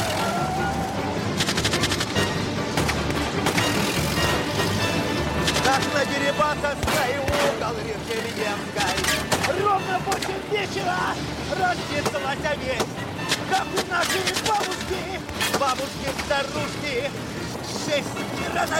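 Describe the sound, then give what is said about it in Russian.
Repeated sharp gunshots crack over the roar of engines as police detectives and bandits exchange fire from the windows of moving cars while chasing a truck, with shouting voices mixed into the dense, loud action throughout. “Опера и бандиты стреляют из окон машин.”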